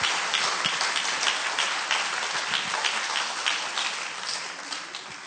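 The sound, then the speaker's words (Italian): A crowd applauds Jesus steadily, a dense wash of many hands clapping at once that holds fairly loud for several seconds and then tapers slightly toward the end, with no voices on top. “Un applauso a Gesù, per favore.”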